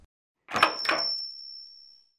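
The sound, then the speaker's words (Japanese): A shop door swings open with a soft rattle and a small bell jingles, its thin high ring lingering and fading over a second or so. No one speaks. “その時、店のドアが静かに開きました。”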